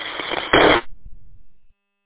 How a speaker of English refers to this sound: All static.